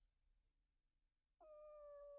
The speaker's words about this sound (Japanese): 今の聞こえた？猫が鳴いたように聞こえたなら多分もう来てる。